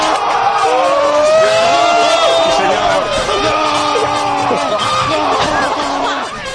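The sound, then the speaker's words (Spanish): Excited shouting and whooping from a group of people as Fàbregas takes a penalty for Spain against goalkeeper Buffon in a semifinal, loud and sustained, with overlapping voices yelling and cheering in a lively crowd atmosphere. “Bueno, ya vemos un poco por los gritos cómo era el ambiente en el momento.”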